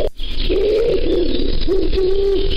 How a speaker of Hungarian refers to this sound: Örvös galamb. Ez örvös galamb.